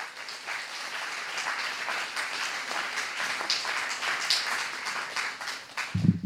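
A crowd applauds steadily, a dense, even wash of many hands clapping at moderate loudness, holding for several seconds without any voices over it.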